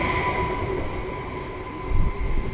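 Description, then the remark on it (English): A passenger train out of Moscow, heading two hours away to the industrial city of Tver, Russia, rolls steadily along the railway, its low continuous rumble overlaid with faint sustained whining tones, swelling slightly near the end. No voices are heard. “So I hopped on a train out of Moscow and stepped off 2 hours away in the industrial city of Tver.”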